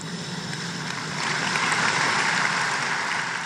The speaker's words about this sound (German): Der Beifall fällt etwas spärlicher aus an dieser Stelle.